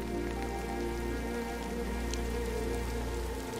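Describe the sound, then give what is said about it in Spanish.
Steady rain patters on a surface, a dense, even wash of drops with no pauses, moderately quiet, with a faint low hum beneath it and no voices. “Aquí abrazas la eterna sabiduría de la lluvia.”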